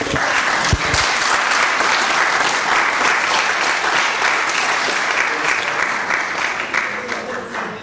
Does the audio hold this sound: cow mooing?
no